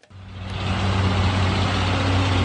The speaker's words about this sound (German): Sie sitzen auf überfüllten Lastwagen mit allem, was sie noch besitzen. Kanister, Säcke, Habseligkeiten, gestapelt auf den Dächern der Trucks.